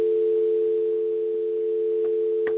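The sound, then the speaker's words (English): A steady, continuous telephone dial tone on a conference call hums at moderate loudness with no breaks, joined near the end by a couple of faint clicks or bits of line noise. “Oh, I'm hearing a dial tone.”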